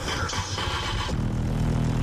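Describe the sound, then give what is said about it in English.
Street traffic noise gives way to a car engine idling, a steady, low, continuous rumble with a faint hum running through it. No voices. “Or the only place had a background of traffic sound?”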